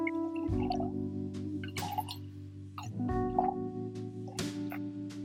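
Wine glugs and splashes into a glass in several short bursts over a steady low hum, with no talking.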